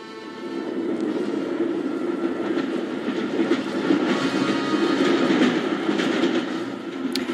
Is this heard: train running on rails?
yes